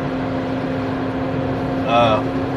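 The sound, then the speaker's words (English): A steady low engine drone fills a car cabin, with a constant hum and road rumble throughout, and a brief higher warbling tone rising near the end. “Like I said, I'm just talking to my goddamn self in the car.”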